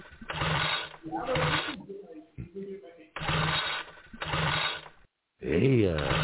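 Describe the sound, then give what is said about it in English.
A small chainsaw engine sputters and rattles in repeated short bursts, cutting out between tries, then briefly catches with a wavering, revving whine before dying again, due to problems with the choke. “It looks like you're having problems with that chainsaw.”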